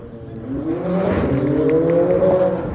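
A powerful car engine roars loudly as it speeds past, its pitch climbing steadily as it accelerates for a few seconds with no voices present.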